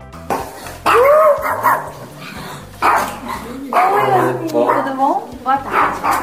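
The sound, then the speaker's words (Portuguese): Luna, a small family dog in Plano Piloto, Brasília, yaps in repeated bursts of high, sharp barks mixed with whiny yips, with a low steady hum running underneath. “Eles moram no plano piloto em Brasília, com 4 filhos e a cachorrinha Luna.”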